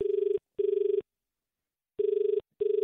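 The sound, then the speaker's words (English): Ringback tone of an outgoing phone call to a news agency in Five Dock: two steady, buzzy double rings, each pair of bursts separated by a long pause, clear with no voices. “let's give them a call and see if I can get it. Okay, we'll call them now.”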